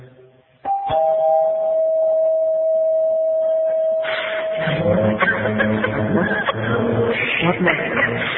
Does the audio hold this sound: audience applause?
no